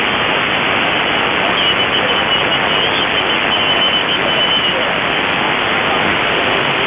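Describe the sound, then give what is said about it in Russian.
Steady, loud radio static hisses throughout, with a very faint voice barely rising above the noise, too buried to make out. “Ага, ясно, да, очень-очень слабо. 6-7 баллов, как раз на уровень шумов”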